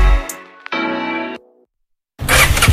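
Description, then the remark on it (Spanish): A Honda Forza 125 motor scooter engine catches with a click and settles into a steady, buzzing idle that cuts off abruptly, then after a short silence a loud, rough burst of revving roars. “Gandhi Auto te lo ponemos muy fácil para que estrenes tu nueva Honda Forza 125”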